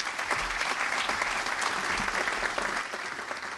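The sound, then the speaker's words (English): Steady audience applause for the director of the Department of Natural Resources, a dense patter of many hands clapping at once, sustained at an even level throughout with no voices rising above it. “It isn't often that the director of the Department of Natural Resources get applause any place I go.”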